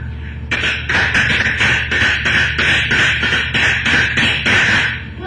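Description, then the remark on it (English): Horses galloping in the distance: a steady, rapid run of hoofbeat clops repeating for about five seconds at an even, fairly loud level, with no voices over them. “I hear horses in the distance.”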